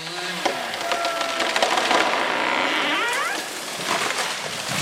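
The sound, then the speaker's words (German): A dense, crackling rush of snapping wood and rustling branches runs steadily for several seconds, with sharp splintering cracks and a sweeping whoosh midway, as a fir tree about 30 meters tall and some 100 years old comes down near Andrzej Zbrożek's house, by Kraszyczyn, Poland. “Unweit von Andrzej Zbrożeks Haus fällt eine Tanne.”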